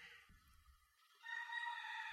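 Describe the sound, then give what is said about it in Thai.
A rooster crows once, a loud, drawn-out call that rises suddenly after a brief stretch of low rumbling background noise and carries to the end. “เนี่ยฟังเสียงไก่ได้ยินไหมไก่มันร้องว่าไงไก่แต่ละประเทศร้องไม่เหมือนกันมันแล้วแต่คนฟังถ้าหิวก็จะได้ยินว่าต้มขาไหมครับ”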